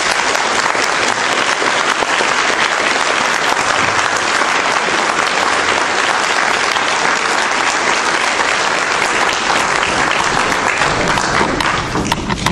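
A crowd breaks into sustained applause, a dense, steady wash of many hands clapping at once, loud and even for about twelve seconds before tapering slightly at the end.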